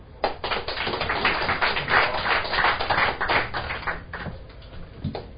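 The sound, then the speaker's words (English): An audience gives a round of applause as the next speaker is introduced, a dense, steady burst of many overlapping claps swelling quickly and holding fairly loud before thinning out toward the end, with no voices over it. “And now, a round of applause”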